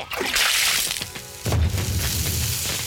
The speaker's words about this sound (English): I couldn't stop him, Mom. He threw the water on the TV and all the lights went out in the house.